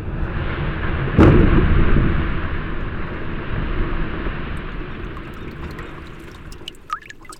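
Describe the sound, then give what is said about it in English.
Glacier ice in Glacier Bay National Park, southern Alaska, lets out a sharp crack, then a deep, sustained rumbling roar like calving, with faint fizzing and scattered dripping clicks emerging as the rumble fades. “The ice cracks, fizzles, drips, and calves. These are the sounds of Glacier Bay National Park, in Alaska's southern region, where most of the state's glaciers are concentrated.”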